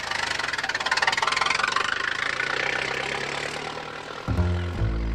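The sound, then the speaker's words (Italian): A car engine runs with a steady, throbbing rumble that eases off slightly as the car pulls away, fleeing toward Paris, before a sustained tonal sound abruptly takes over near the end. No one speaks. “Quando Bonneau vede il guardiacaccia, abbandona il corpo di Platanon e scappa con l'auto verso Parigi.”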